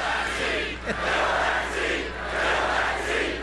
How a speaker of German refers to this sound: sagte er vor jubelnden Anhängern, die im Sprechchor "Fill that seat", also besetzt den Platz, riefen.